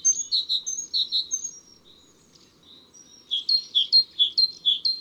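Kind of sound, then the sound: bird, european goldfinch song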